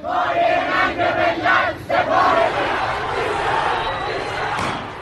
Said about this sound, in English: Some vigils for the crash victims, however, turned angry with protesters taking to the streets. Some chanted, "Our leader is ignorant and a source of shame," and others called the IRGC forces incompetent and a source of shame for our nation.